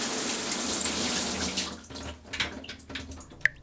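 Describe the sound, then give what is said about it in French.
Shower water runs in a steady hiss for a couple of seconds, then cuts off, leaving scattered drips and small splashes. The shower is offered by an association helping people in need in Greater Montpellier, France. No voices. “Bien plus, en somme, qu'une simple douche.”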